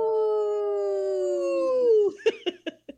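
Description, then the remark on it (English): A human voice imitates a wolf howl on the radio show Native Roots Radio Presents: one long, steady tone that sinks slowly in pitch for about two seconds, then four short, sharp yips in quick succession. “That was a good howl today.”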